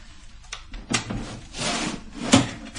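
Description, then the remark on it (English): A filing cabinet drawer in a locked room slides open with a long, scraping rub, then stops with a sharp clunk. A few smaller knocks and shuffles come first, and no one speaks. “Right, let's have a look in the filing cabinet.”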